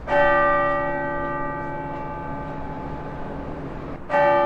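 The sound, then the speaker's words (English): Large bells of the Cathedral Basilica in Denver, Colorado, ring loudly in remembrance of Pope Francis, one heavy strike swelling into a long, shimmering hum before a second peal breaks in near the end. No one speaks. “Bells rang out in Denver from the Cathedral Basilica as Coloradans remembered Pope Francis today”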